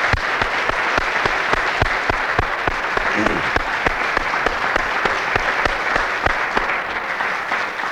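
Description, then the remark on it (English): A crowd claps steadily for several seconds for members who donated to the Savior's Day gift, dense overlapping hand claps forming a loud, even wash of applause with no talking over it. “Let's give them a hearty round of applause.”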